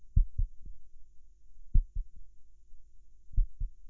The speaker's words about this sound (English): A heartbeat. Well, that is odd. I shouldn't have one, yet you are feeling it.